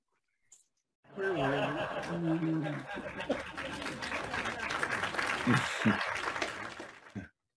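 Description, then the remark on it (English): An audience chuckles and laughs briefly, then breaks into a steady wash of dense applause that holds for several seconds before stopping abruptly. “Yeah, they didn't clap right away, did they?”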